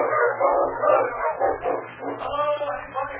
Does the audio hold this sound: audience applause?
no